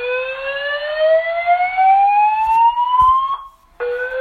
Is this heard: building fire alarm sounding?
yes